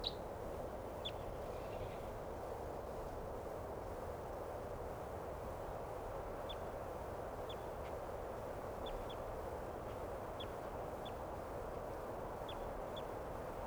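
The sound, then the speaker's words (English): A distant wild bird calls with brief, faint high chirps repeated at irregular intervals, nearly lost in a steady, loud background hiss and rumble. No one speaks. “Recording that wild bird still calling from some distance away now.”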